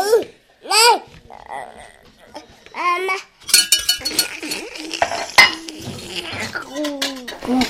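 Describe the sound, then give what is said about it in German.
A small child babbles and squeals while playing at cooking, then bangs a whisk against a pan, making a busy run of metallic clinks and clatters while the child keeps vocalizing underneath. “Kochen, ja. Eine Pfanne.”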